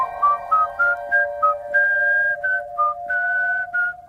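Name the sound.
human whistling a melody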